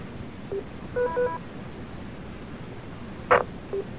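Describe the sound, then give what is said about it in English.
A few short DTMF touch-tone dialing beeps bringing up a radio phone patch to the state police, over a hissy, band-limited radio channel, with a brief burst of static near the end and no talking. “There's no injuries as I can see, but I was just wondering, should I bring up the phone patch for the state police?”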